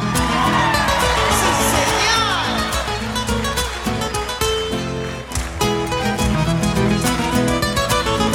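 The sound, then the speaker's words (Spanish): A crowd at Cosquín shouts and cheers loudly and continuously, giving the cuyano shout, their voices blending with steady, dense cueca music that fills the whole stretch without a break. “¡Grito cuyano!”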